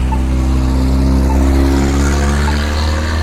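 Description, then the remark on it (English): A steady, loud engine rumble with a deep droning hum as cross traffic coming over a railroad track accelerates through an intersection at Ewing, the traffic noise continuous for a few seconds with no one speaking. “I guess I could have pushed the button, but looks like the perpendicular traffic has the light. They're coming across the railroad track over there to the left.”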